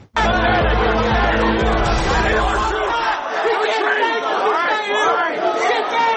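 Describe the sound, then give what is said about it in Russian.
A large crowd of enraged Trump supporters roars and shouts at once on 6 January 2021, a dense, loud wall of many voices sustained for several seconds with no single speaker standing out, like an agitated protest. “Перцовый газ, алюминиевые трубы и толпы разъяренных избирателей.”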